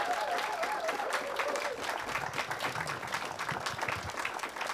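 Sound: audience applause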